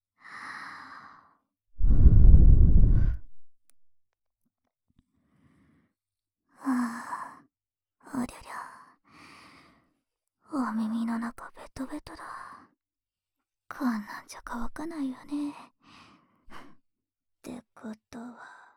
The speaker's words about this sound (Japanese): 僕の吐息、ひんやりして気持ちいいでしょ。